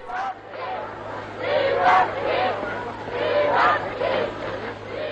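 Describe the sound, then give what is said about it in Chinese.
A large crowd of French people in central Paris cheers and shouts as General de Gaulle leads Free French forces into the city, a continuous roar of overlapping voices, swelling louder twice, over a steady low hum like an old recording. “戴高乐将军率领自由法国部队进入巴黎市中心时，法国人民热烈欢呼。”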